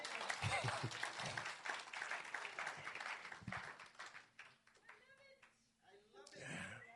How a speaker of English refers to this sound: You want to clap your hands, I can see that.